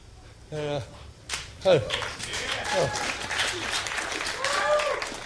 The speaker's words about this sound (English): I don't know why you would clap for that, but we got married on December 7th.